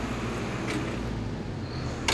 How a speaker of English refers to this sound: And he goes back inside his building. The door opening.